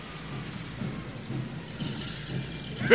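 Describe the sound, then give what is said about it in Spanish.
A steady, low engine rumble of about 40 large trucks rolling past on their way to the town, a continuous drone with slight swells as vehicles go by, and no voices. “Pero comprendí lo que ocurría cuando vi pasar como 40 camiones de esos grandotes que iban rumbo al pueblo.”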